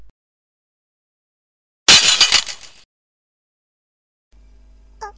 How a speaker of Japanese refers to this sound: アイラが叫ぶとリアは見えない何かに吹き飛ばされ、そしてリアのペンダントの青い宝石が砕け散った。